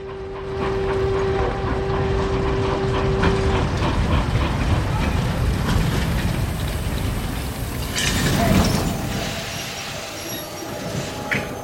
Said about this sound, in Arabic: عندما وصل القطار إلى محطة كيمتون، كان شقيق إنهوا الكبير في انتظاره.